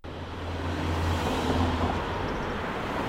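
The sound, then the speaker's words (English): Steady roar of traffic on a busy street in Madison, with cars speeding past and a low engine rumble underneath; loud and continuous, no voices. “Cars are speeding by on a busy street in Madison.”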